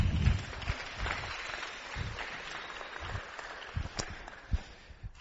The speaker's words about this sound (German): Vielen Dank. Applaus mal bitte.